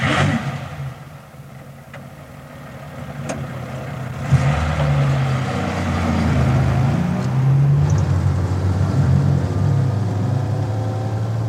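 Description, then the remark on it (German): A car drives steadily along a road, its engine humming and rising slightly in pitch as it accelerates, with a continuous low rumble and no voices. “Fahr langsamer, Paul. Hier kommen ein paar unübersichtliche Straßenkreuzungen.”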